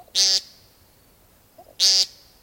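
Two loud, buzzy nasal beeps from a male woodcock in the evening as the light gets low, part of the spring sky dance display, each about a quarter second long, separated by roughly a second and a half of quiet.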